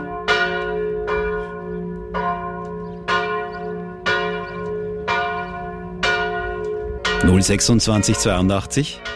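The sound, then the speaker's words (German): Church bells of the baroque church of Franziskus Franz Xaver in Burgenland ring out in a steady, evenly spaced series of strikes, each tone ringing and decaying, before the sound shifts into a denser, clashing jangle near the end. “Noch einmal die Glocken.”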